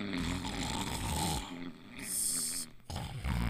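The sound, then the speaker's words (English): Loud snoring from a dog: rough, rumbling breaths with a hissing exhale in the middle and a short pause before the next raspy snore begins. “No snoring in my class.”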